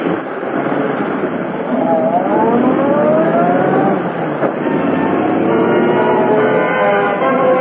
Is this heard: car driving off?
yes